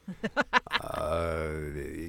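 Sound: voice imitating a growl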